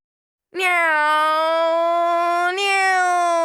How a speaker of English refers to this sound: Meow, meow, meow.